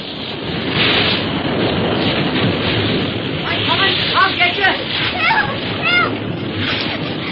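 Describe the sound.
Steady roar of surf and crashing ocean waves fills the scene, loud and continuous, with faint voices calling out briefly beneath the rushing water.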